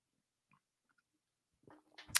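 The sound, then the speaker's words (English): Near silence with faint ticks, then a brief sip of a drink: soft wet slurping and a swallow, ending in a sharp louder burst of noise right at the microphone. No one speaks. “Sorry, I gotta take a sip.”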